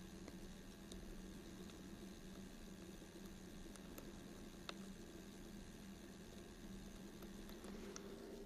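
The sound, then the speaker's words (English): Water trickles gently and steadily, with faint scattered drips and tiny splashes over a low, constant hum. It is quiet and continuous throughout, with no voices. “A little bit of trickling of water that is so charming.”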